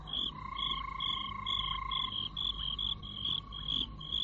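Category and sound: animal, frogs croaking at night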